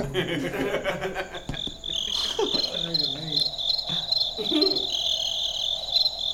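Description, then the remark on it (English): Crickets chirp in a continuous high, buzzing trill that fills the whole stretch, while faint murmuring voices and a brief chuckle sit low underneath. “Hang on, the crickets are back.”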